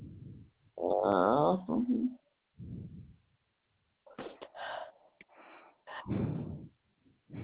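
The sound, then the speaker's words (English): A loud, voiced sneeze bursts out over a phone-quality line, followed by a few softer sniffs and rustling noises. “Thank you. Bless you.”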